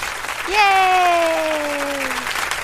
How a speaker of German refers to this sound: Mensch, hier, wo ist denn hier mein Applaus hier? Applaus, Applaus.